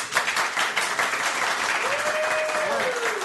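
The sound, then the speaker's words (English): A crowd claps steadily and loudly for a few seconds, a dense patter of many hands, with a long sustained whoop or whistle rising over the applause toward the end. “And you say, I failed. And everybody applauds you.”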